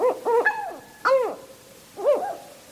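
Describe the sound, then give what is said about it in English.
A northern hawk owl calls: a quick burst of arching, harmonic-rich hoots, then two single falling notes spaced about a second apart, fairly loud against a quiet background with no voices. “Northern hawk owls hunt by sight in broad daylight.”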